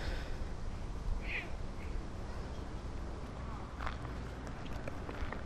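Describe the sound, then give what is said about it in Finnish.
A duck gives a short quack or two against steady outdoor background noise, with faint shuffling footsteps, as ducks eat while people stand watching them. “Kyllä se itsestäkin hassulta tuntuisi, jos ankka olisin.”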